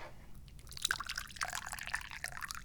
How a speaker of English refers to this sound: Oh, I just poured some yummy tea. What am I drinking today? I'm on the good stuff.